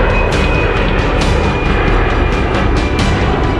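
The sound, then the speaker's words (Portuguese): A loud, steady jet roar fills the whole stretch, a broad rumbling wash with a faint high whine on top, as an airplane takes off from the airport runway in Gibraltar, which crosses the city's main avenue while traffic waits. “Pousos e decolagens param o trânsito. O motorista espera, só pode seguir viagem depois que o avião ganha o céu.”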